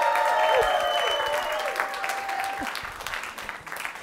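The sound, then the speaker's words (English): A crowd breaks into steady, dense applause, many hands clapping at once in a loud continuous patter, with a few thin whistles over it, easing slightly toward the end. “Let's give it up for them one more time, please.”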